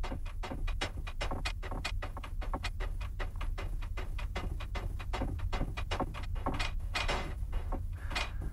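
A cell door opens and shuts over and over, a steady run of sharp clanks and clatters in quick succession above a constant low rumble, with no voices.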